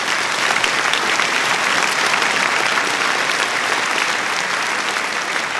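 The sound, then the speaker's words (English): Sustained applause from a large audience for a group of men, dense and even clapping at steady volume for several seconds, with no voices standing out. “Okay, let's give these men a round of applause.”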